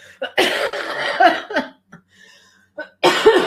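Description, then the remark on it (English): A harsh coughing fit: a long rough burst, a few smaller hacks, a brief pause with faint breaths, then one more forceful cough at the end. “In sessions today, when I'm coughing like that, I'm muting myself.”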